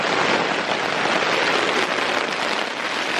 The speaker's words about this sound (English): The tent is just coming in on me. The wind is so bad.